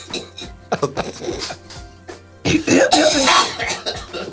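A man coughs close by: a few short, rough coughs, then a longer, harsher hacking fit that grows louder and raspier before trailing off.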